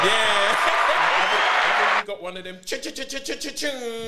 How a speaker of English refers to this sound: Hey, we need a clap for Brighton.